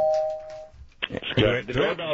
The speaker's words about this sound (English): Do you need this fake doorbell and door open sound effect for that? Or you just No. Our doorbell works at our house, so thank you. You sure? Hear it. Listen to it again, just so you know.